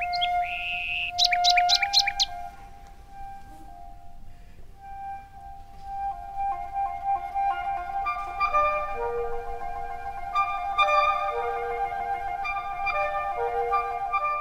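Birds sing and chirp with no voices present: a quick burst of high trills opens, then sustained whistled notes and clear chirps continue at moderate loudness, layered over one another.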